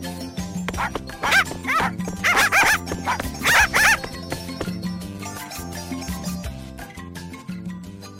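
A cluster of high-pitched puppy yaps and barks, several in quick succession over a few seconds, heard over a steady background music bed that continues after the barking stops.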